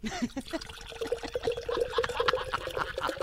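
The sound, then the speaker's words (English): Beer pours steadily into an official beer mug, a continuous gurgling trickle with a rising tone as the mug fills, lasting a few seconds with no talking. “And so without further ado, I begin to pour.”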